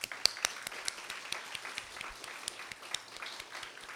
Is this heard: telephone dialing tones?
no